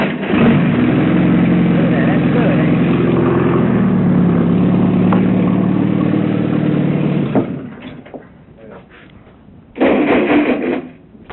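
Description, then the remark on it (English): A tractor engine, just started while being examined in late July or early August 1969, runs loud with a steady, rumbling chug for about seven seconds, then cuts off, leaving quieter rattling before a short burst of noise near the end. “examining the tractor. He started it, and pretty soon now he's going to comment on it.”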